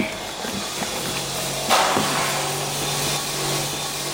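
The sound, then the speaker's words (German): Construction noise from a building site in Zyuan, Sichuan, China: a steady hiss of work with hammer blows and muffled voices, a brief burst of a screeching wood saw midway and a faint knock, set against a broad background hum. “Stattdessen sind nur gedämpfte Stimmen und von einer Baustelle Hammerschläge zu hören. Zwischendurch kreischt irgendwo eine Holzsäge.”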